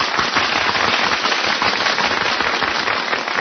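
A large circus crowd claps steadily as two performers dressed as a lion and a tiger enter the big cage, a dense crackling wash of many hands at an even, loud level throughout, with no voices rising above it.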